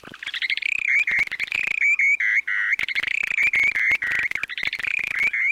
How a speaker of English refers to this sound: These calls might seem unimpressive, but take a listen to the short-billed dowitcher's breeding songs.